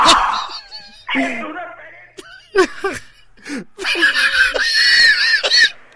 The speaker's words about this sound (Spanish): Se le oye gritar hasta aquí, macho.